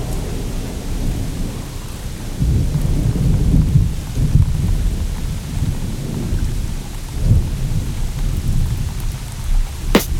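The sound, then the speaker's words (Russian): Heavy rain pours steadily onto asphalt, a dense hiss throughout, while deep thunder rumbles roll through in the middle and a sharp crack of thunder strikes near the end. “Ливень, кипящий на асфальте, жирный.”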